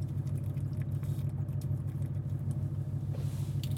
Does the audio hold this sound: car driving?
yes